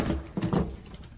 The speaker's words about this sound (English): Bolt the door.